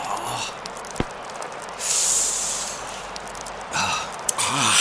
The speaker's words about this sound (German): Boah, windig.